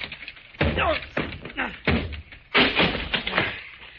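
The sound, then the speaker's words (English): A locked door is battered with four heavy, booming thuds at a steady pace, each blow loud, with strained grunts mixed in as someone breaks it down. “that door's locked. Stand back, Fern. Yeah. I'll have to break it down.”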